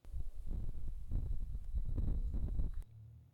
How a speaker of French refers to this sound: Nous sommes actuellement en automne, les feuilles commencent à tomber et craquent sous les pas des visiteurs. Ou lorsque le vent souffle.